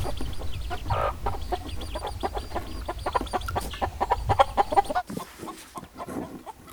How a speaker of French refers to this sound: Tout est calme. Quelques oiseaux pépient.